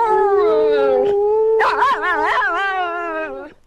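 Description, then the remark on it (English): The dog Yuki howls in long, wavering tones alongside LBJ's sustained singing voice on lead vocals, the two blending loudly for a few seconds before trailing off. “LBJ on lead vocals, Yuki follows. Come on, sing for me.”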